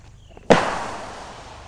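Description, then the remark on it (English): A single sharp explosion of a simulated IED bursts out after a moment of quiet during a Marine patrol simulation. The loud blast, which injures a Marine, leaves a rumbling echo that fades away over the following second. No voices are heard. “In this simulation, an IED explosion injures a Marine and triggers a chain of events.”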